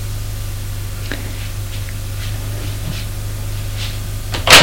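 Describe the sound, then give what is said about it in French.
A door off a dark hallway in a house opens with a sharp latch click and brief rattle at the very end, after several seconds of steady low hum and faint scattered ticks. No one speaks. “Elle ouvre une porte.”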